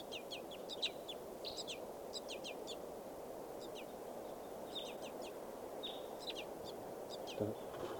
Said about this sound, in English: Back at the wild birds, begging baby. And a wild white gull.